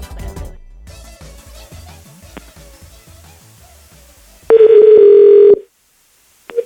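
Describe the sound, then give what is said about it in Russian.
A phone being dialed to call a bathhouse attendant: a quick run of short electronic button tones, then a loud, steady telephone tone lasting about a second before cutting off into near silence. “Это телефон банщицы. Сейчас, подождите.”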